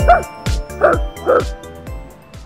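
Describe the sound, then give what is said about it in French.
A dog lets out a quick series of sharp, yippy barks, about five of them in close succession, loud. “Il y a un chien là.”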